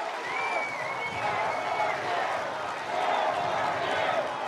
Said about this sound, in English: Amid the cheers, you can hear the crowd chant, "Four more years."